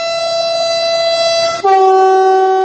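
A train moving very slowly, at up to about 50 km/h, on a worn railway line toward Kuršumlija, Serbia, sounds a long, loud, steady horn blast that abruptly shifts to a lower chord partway through and holds. No one speaks.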